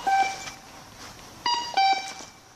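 A pedestrian crossing signal at a traffic light beeps to let pedestrians know they can cross: short, mid-pitched electronic tones with a buzzy edge, a brief burst at first, then after a pause two more beeps, with soft ticking pulses between them.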